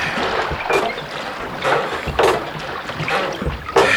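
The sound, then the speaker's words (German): Oars dip and pull through water in a steady rhythm, with bright splashy strokes roughly every half second to second over a continuous wash of moving water, as a boat is rowed faster toward a man swimming in the water. “Schneller, rudert schneller.”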